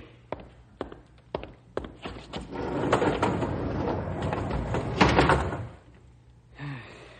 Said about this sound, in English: Close the doors, Rube.